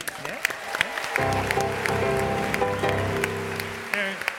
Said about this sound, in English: You're even clapping for yourself.